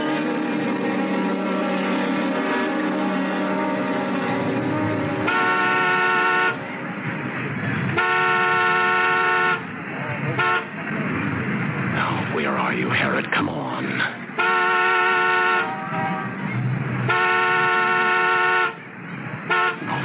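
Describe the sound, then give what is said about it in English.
A car horn honks four times in long, sustained, loud blasts, separated by short gaps, with indistinct voices and road noise in between. “And if one of us is late, honk the horn as a reminder.”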